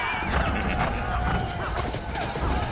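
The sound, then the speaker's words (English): Ridden horses gallop hard across desert sand dunes, hooves drumming in a steady, continuous rush, with a horse whinnying partway through. The sound is loud, filling the whole stretch without pause. “Kensa and the jackals ride hard across the sand dunes.”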